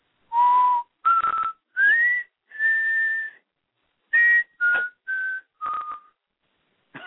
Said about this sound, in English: people who know Nightmare on Elm Street, there's a specific tune that is played, and I'm sitting there whistling.